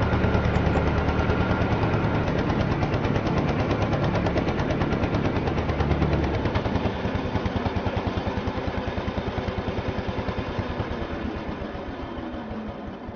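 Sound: lawn mower engine running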